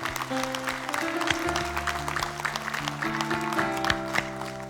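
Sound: audience clapping in praise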